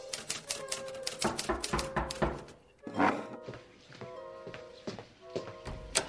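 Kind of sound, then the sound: machine, typing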